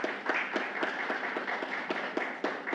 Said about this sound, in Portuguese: Uma salva de palmas para o nosso homenageado.